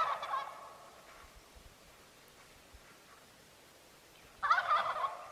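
Young male turkeys gobble in two loud, rattling bursts, one at the start and another near the end, with a quiet outdoor hush and faint rustling in between.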